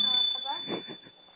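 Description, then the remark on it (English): A small bell rings with a thin, high, sustained tone that carries through the whole moment while a person talks over it. “Oh, that's the bell. That was a little bell.”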